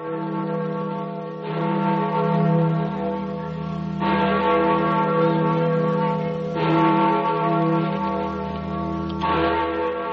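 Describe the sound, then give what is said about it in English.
The Freedom Bell, a large, deep-toned bell, tolls slowly, about five heavy strikes a few seconds apart, each blooming into a long, humming resonance that never fully fades before the next. No voices are heard. “That's the Freedom Bell, heard round the world.”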